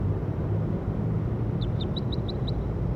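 A bird calls with a quick series of six short, high chirps in a steady rhythm, heard over a constant low rumble of traffic or engine noise.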